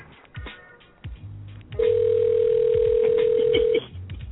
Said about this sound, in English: So her phone's ringing, which tells us that her line's not dead, because if it was dead, it would go immediately to voicemail.